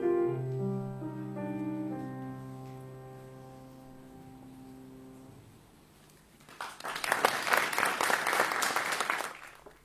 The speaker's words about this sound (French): Il y a même j'ai gardé les applaudissements du public pour faire le live.